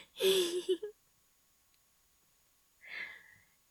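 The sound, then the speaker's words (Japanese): A woman breathes heavily twice, separated by about two seconds of silence: first a loud, voiced sighing exhale, then a softer, airy breath. “音声のみということで、あまり音が入らなくなってしまったんですけど、私のエッチな声とか荒い息遣いは聞こえていますよね。”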